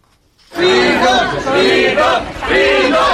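A large crowd at the Moria refugee centre chants "svoboda, svoboda" (freedom, freedom) in unison as they await the Pope, loud, with rhythmic rising and falling shouts starting abruptly and continuing steadily.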